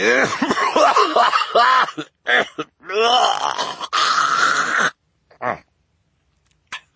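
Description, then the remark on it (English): A voice acts out Mr. Poe's harsh, rasping coughing fit into his white handkerchief: a long run of throaty hacking and sputtering, then a few short, isolated coughs trailing off into silence, loud. “Mr. Poe paused to cough into his white handkerchief again.”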